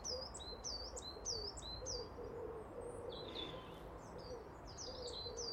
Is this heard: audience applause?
no